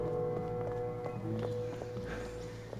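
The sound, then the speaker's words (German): Hooves of a horse galloping away with a princess on its back, in a quick, steady rhythm of sharp clip-clop strikes over a constant low hum, moderately loud, with no talking. “Auf und davon galoppierte das Pferd mit der Prinzessin darauf.”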